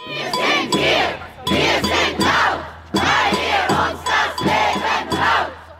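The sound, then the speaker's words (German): A large protest crowd chants in unison at a rally, loud shouted phrases repeating in a steady rhythm with short breaks between them, over a constant low hum. “An einer Spontankundgebung auf dem Bundesplatz äußerte die feministische Bewegung ihre Wut.”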